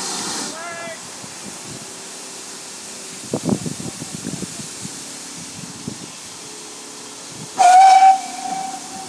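A steam locomotive whistle sounds twice, a short hoot at the start and a louder, sustained blast near the end, over steady steam hiss with some muffled chatter and knocking in between; heard out of a passenger compartment window one compartment behind the engine, shortly before the train departs.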